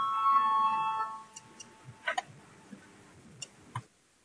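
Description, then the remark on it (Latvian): A parliament voting bell rings with a steady electronic tone for about a second, called before a vote on a deputy's proposal, then cuts off, leaving quiet with a few scattered clicks and taps and no talking. “Lūdzu zvanu, balsosim par pirmo deputāti Stepaņenko priekšlikumu.”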